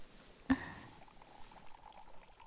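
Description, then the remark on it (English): A brief glassy clink, then a soft, steady trickle of water being poured into a glass, quiet, continuing for a couple of seconds with no voices. “Water will be nice.”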